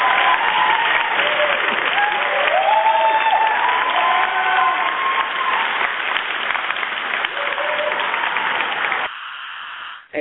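applause

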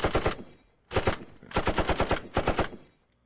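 gunshots

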